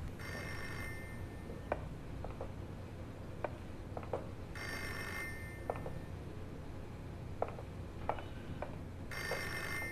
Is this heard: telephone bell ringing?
yes